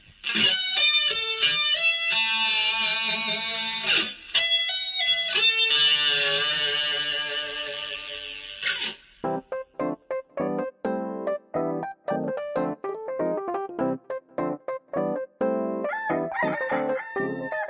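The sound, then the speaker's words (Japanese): A short, loud jingle opens with bright, sustained crowing-like tones, then switches to a quick run of choppy staccato notes with a steady bouncy rhythm, with no talking. “はい、綺麗にまとまったところで、ジングルいきまーす。”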